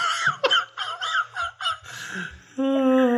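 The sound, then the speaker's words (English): A person imitates a duck with a rapid run of about six nasal, honking quacks, loud, followed by a steadier drawn-out vocal tone at the end. “I'm not making the duck sound.”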